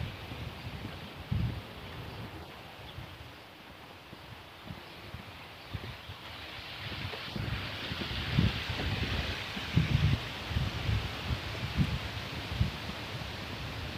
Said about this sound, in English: I'm gonna walk under a cottonwood tree. You got the wind blowing, you can probably hear it through the trees.